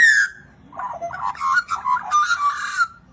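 A woman's magpie whistles and warbles as she chats with it: a bright opening note, a brief pause, then a run of varied, fluting, gliding notes at a fairly steady loudness, with no talking.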